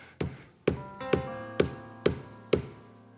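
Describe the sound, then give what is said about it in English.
Six firm knocks land at a steady, even pace, each a sharp wooden rap with a brief resonant ring fading before the next. No voices accompany them. “Can you need it enough to knock?”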